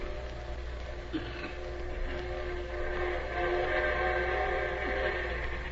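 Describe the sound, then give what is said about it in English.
A train rumbles steadily as it arrives, its whistle sounding a long, sustained tone over the low churning of the engine, growing slightly louder toward the end. “Well, there's the train.”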